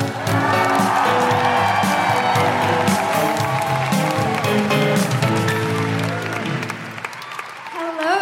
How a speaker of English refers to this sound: I will tell you no more about her except to applaud loudly, cheer loudly, make all of your patriarchy-smashing woohooing noises